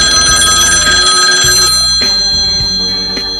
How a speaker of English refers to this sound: Effie places a desperate phone call to the Bangor Fire Department